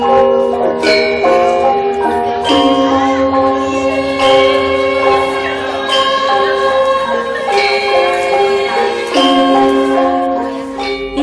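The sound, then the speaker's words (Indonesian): Balinese gong luang gamelan music, traditional music of Bali: layered bright metallic tones ring out in steady interlocking patterns, with sustained low gong resonance underneath and periodic accented strikes, loud, no voices. “Di awal program, kita sudah mendengar gong luang.”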